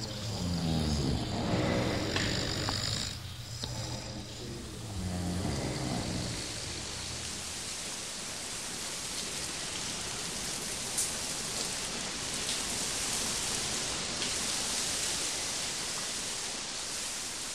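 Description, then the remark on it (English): Steady rain pours down on streets with a dense, hissing patter that stays constant throughout, after some brief tonal, murmuring sounds fade away in the first few seconds. “In the morning, the streets are damp. The quiet streets and smell of rain make it seem like Sunday.”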